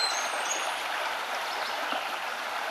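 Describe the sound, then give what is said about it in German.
A small, shallow brook in a forest babbles steadily, its water rushing and trickling in a continuous, even wash of sound with no voices present. “Wenn du magst, kannst du den kleinen Bach überqueren, indem du von einem Stein zum anderen springst.”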